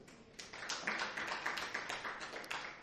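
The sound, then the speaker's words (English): An audience gives a very big hand clap after a prayer: dense, overlapping hand claps that keep up steadily for a few seconds, a bright crackling wash of many hands with no voices standing out. “Yes, welcome your neighbor as you give Teddy a very big hand clap.”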